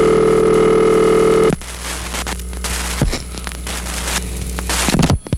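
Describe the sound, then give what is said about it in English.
A loud steady tone, like a telephone dial tone, holds for about a second and a half, then gives way to a softer line hum with faint clicks and crackle as the call connects. “but first I got to make an important phone call, and since I can't do it any other way but this way, I guess you'll have to listen in.”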